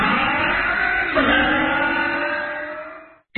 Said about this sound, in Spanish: Para que tu auto suene así, limpia inyectores de Bardal. Con inyectores limpios, el auto anda mejor y ahorras combustible.